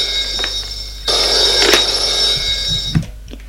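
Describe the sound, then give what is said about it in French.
A telephone on the desk of a suite rings with a loud, high-pitched, continuous trilling bell that starts suddenly after a brief quiet moment and cuts off with a soft clunk near the end. “Prend le téléphone qui est sur le bureau.”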